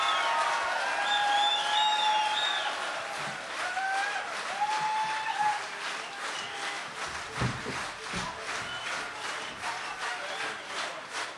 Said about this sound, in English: Give him a hand. Give him a hand. Faites du bruit encore pour …. Applaudissez-les, applaudissez-les. Encore plus de bruit.